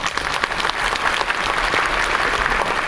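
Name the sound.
audience applause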